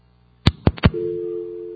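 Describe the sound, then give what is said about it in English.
Three sharp clicks in quick succession, like a handset being lifted, then a steady, low telephone dial tone hums continuously at moderate volume until the end. “Is this phone actually hooked up? Let's see if we get a dial tone.”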